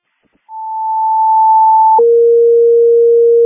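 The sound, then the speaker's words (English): A Crystal Lake dispatch advisory alarm tone for Prairie Ridge High School: a steady, pure high tone for about a second and a half, then dropping abruptly to a lower sustained tone, loud and alone with no voices. “Advisory alarm.”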